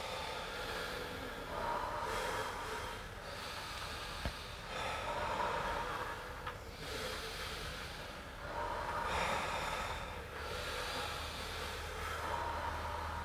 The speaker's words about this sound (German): Lasst euch tragen von den Geräuschen des Atems.